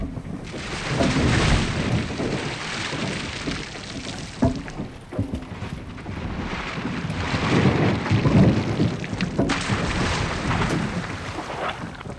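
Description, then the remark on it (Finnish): A continuous, heavy rumble of logs tumbling down a log chute in terrain sloping toward Saimaa, with scattered clattering knocks over a rushing, wind-like roar that swells and eases without pause, ending with a splash. “Niin, se on semmoista jyrinää ja kolinaa.”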